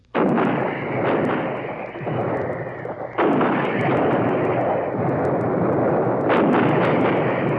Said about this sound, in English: For weeks, the long rows of 155s, long toms, had been in position. Their ammunition dumps well stocked, their breaches well oiled. These precision weapons laid down the most concentrated heavy artillery fire of this war.